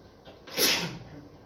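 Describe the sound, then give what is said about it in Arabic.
A single sharp sneeze bursts out during a lecture in Arabic on Islamic jurisprudence, loud, with a bright hissy blast that fades quickly into quiet. “يرحمك الله”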